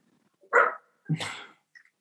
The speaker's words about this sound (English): And I'll see if I can't get that dog quieted down. Hey.